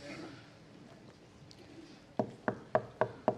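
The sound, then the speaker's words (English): Five firm knocks on a door in a steady, quick rhythm, sharp, following a couple of seconds of faint room murmur. “Who's at the door?”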